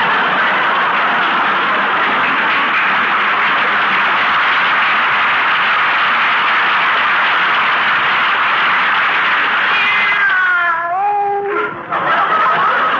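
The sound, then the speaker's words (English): A steady, loud rushing noise fills the whole recording, and near the end a cat gives a short meow, its pitch bending downward before it stops. “Come over here. That's a good kitty.”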